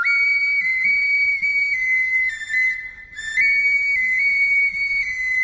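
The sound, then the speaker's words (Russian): A Mari folk stone whistle (tash sybyzgy) plays a shrill, steady birdsong-like warble, held almost continuously with slight trills and one brief break midway, loud with no voices. “Таш Сыбызги называется каменный свисток, шуншушпык, глиняный соловей марийский.”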